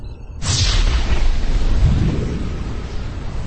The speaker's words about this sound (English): On the visual, the Harrier's ion cannon began to fire.